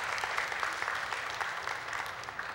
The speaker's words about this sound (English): And while we're here, would you give Chris a round of applause, thanking him for putting up with me as he put these slides together?